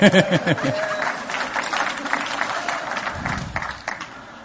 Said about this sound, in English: You can give the Lord a hand clap for that one.